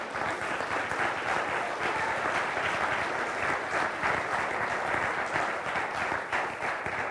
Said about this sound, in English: So maybe just give God a round of applause, if you would, please.